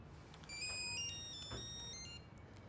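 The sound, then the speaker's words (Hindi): A phone rings with a bright electronic ringtone, a short run of stepped melodic tones repeating for a couple of seconds, fairly clear, with no one speaking over it. “बुरी बात है, तुम फोन का जवाब तो दो, देखो कौन है।”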